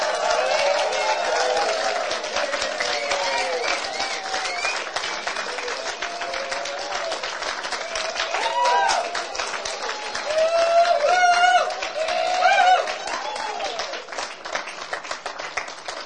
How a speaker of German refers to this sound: Und jetzt möchte ich euch 10 Sekunden Raum geben, euch zu freuen und Gott zu zeigen. Ihr könnt aufstehen, ihr könnt in die Hände klatschen, alles was ihr möchtet. 10 Sekunden.